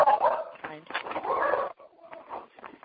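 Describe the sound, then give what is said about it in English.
Dogs bark and whimper in a jumble of yelps and whines, steady for a few seconds, with a thin, muffled quality, heard over a group phone call. “They're dogs. Always the dogs.”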